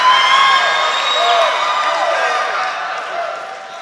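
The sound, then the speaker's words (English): An audience at a training event cheers and applauds loudly for about four seconds, a dense, steady roar of clapping mixed with many excited voices, whoops and shouts rising and falling throughout. “So, sit back, listen, and learn from one of our best training segments that brought the crowd to their feet.”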